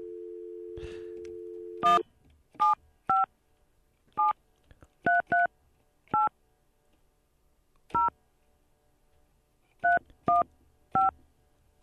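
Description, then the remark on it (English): A steady dial tone hums briefly, then about a dozen short telephone keypad tones beep one after another in an uneven rhythm as a person's phone number is dialed, clear, with no one speaking. “Yeah, that's his number.”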